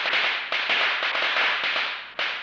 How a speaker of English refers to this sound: I cut him off. Wait, what was that? Somebody threw something, he said calmly. Maybe firecrackers?